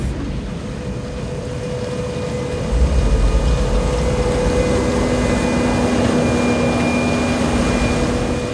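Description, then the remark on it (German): A flying ship's engine drones steadily and loudly throughout, with a thin whining hum on top and a deeper rumble that swells in partway and holds to the end. “Ich rette euch. Ich mit einem Flugschiff.”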